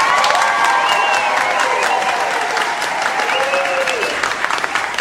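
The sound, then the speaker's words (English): An enthusiastic audience at the Firehouse Follies applauds and cheers steadily for the full five seconds, dense clapping mixed with whoops and excited shouts, loud and continuous without a break. “Well, and an enthusiastic audience.”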